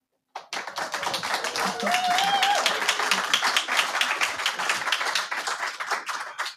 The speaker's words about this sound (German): Und an unsere Zuhörerinnen, nein, der Applaus ist nicht eingespielt. Wir sind hier in der Aula der Volkshochschule Reutlingen und freuen uns wahnsinnig, hier sein zu können.